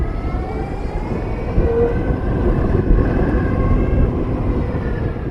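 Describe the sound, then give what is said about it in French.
Steady rolling rumble of an electric scooter from a Bosch sharing service being ridden in Paris, with a low whirring motor tone and faint rising whine layered over road and wind noise; no one speaks. “Ça fait très peu de bruit parce que c'est électrique, c'est très agréable à conduire.”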